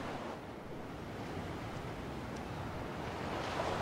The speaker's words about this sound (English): And that's Boracay. Can you hear the waves?